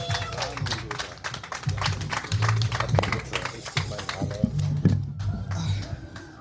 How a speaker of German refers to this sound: Kommen Sie ran. Yes. Macht mal bitte einen unfassbaren Lärm und Applaus für Ilan.